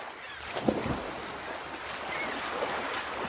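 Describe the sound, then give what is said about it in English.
Gentle waves lap steadily against the hull of an anchored sailboat, a soft continuous wash with a brief slap of water near the start, fairly quiet, with no one talking. “Anchor the boat for a little while. I'm going to take a dip.”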